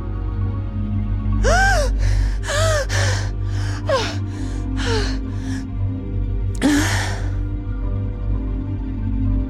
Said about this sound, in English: Gasping, I drag myself up. I resurface.